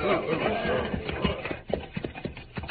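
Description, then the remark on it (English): Horse hooves clip-clop in a loose, slowing rhythm, the sharp knocks growing sparse as the animals come to a halt, with voices murmuring underneath at the start. “Our horses need water, señor.”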